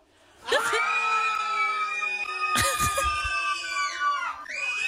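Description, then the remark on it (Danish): A group of voices screams together in one long, sustained, high-pitched chorus of overlapping tones. The cry swells again partway through, then breaks off and briefly starts up once more. “Siger man bare, Nej, man samles alle sammen, og så skriger man.”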